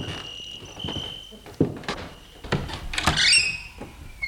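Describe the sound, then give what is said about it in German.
A door opens with a few clunks and a short creaking scrape, while crickets chirp steadily in the background. “Gehen wir rein, die Tür ist offen.”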